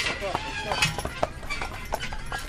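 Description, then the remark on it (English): Horse hooves clip-clop at a steady walking pace, pulling a buggy on a horse-drawn buggy ride for families past almond and walnut orchards at the Wood Colony Country Fair, with a person talking over the sharp, evenly spaced hoofbeats. “While families take horse-drawn buggy rides past almond and walnut orchards”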